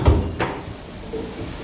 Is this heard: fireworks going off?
no